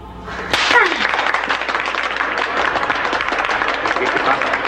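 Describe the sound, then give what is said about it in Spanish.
Applause for a teacher breaks out suddenly and holds steady as a dense, crackling wash of many hands clapping, fairly loud and continuous throughout. “Es que usted se merece ese aplauso.”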